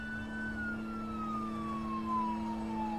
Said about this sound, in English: Kept wiping my face and wiping my face, and I could hear the sirens finally show up out front. The police are there.